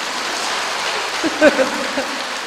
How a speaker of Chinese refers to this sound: 鼓掌